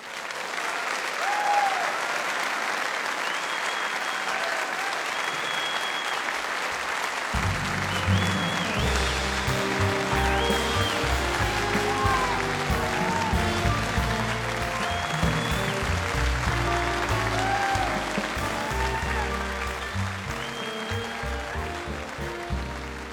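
A concert audience applauds loudly and steadily, a dense wash of clapping that holds for over twenty seconds, with a few whistles and cheers rising above it and low rumbling notes joining partway through.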